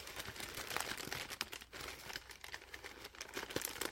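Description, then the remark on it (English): Continuous crinkling of paper, with rapid crackly bursts and sharp snaps rising and falling over a few seconds, no voices. “I like the paper better.”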